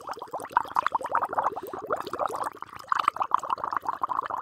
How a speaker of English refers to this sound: Then you take the noodles out and then put them in the basket to let the water drain off.